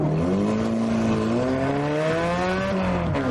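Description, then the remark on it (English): A rear-engined racing car's engine roars loudly and steadily, its pitch rising and holding in a sustained high rev with no talking. “Racing is called for cats, so catalysts, let's hear that engine roar!”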